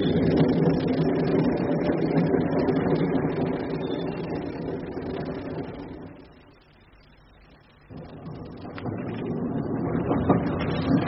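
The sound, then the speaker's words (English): A train rumbles loudly into a station, a steady heavy mechanical roar that briefly drops to a quieter lull before surging back. No voices are heard. “The train. Here it comes at last.”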